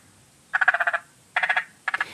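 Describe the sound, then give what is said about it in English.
A spring chorus of frogs in Hall Village in the ACT, Australia, calling in quick pulsed trills, three bursts of rapid clicking croaks separated by short pauses, against a quiet background hum. “There are still so many of your recordings that I haven't included into programs, like this one of a spring frog chorus in Hall Village in the ACT”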